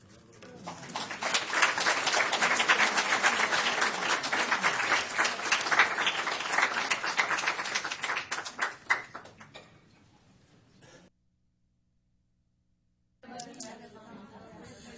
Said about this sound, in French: On peut applaudir encore une fois